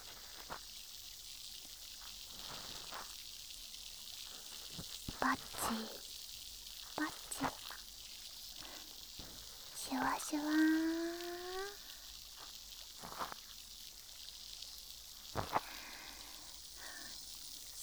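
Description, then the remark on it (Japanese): Steady, soft fizzing and crackling in the ear from a soaked cotton swab inserted into the ear, like bubbles popping, broken by scattered sharp clicks and rustles and a brief rising squeaky sound midway. “耳の奥までシュワシュワ音が響いて気持ちいいですか？”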